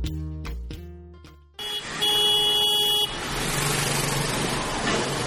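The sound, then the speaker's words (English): A few short car horn toots, then a long, loud blaring honk over a rush of engine and road noise that continues steadily afterward, in traffic at Black Rock City during Burning Man. “This is Caveat, reminding you to cope with traffic.”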